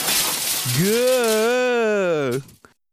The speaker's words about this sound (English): Carl marches up to a cart of party refreshments and smashes it with the butt of his rifle.